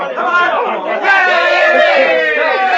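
A crowd of onlookers chatters, many overlapping voices blending into a steady, fairly loud murmur with no single speaker standing out, continuous for the whole few seconds.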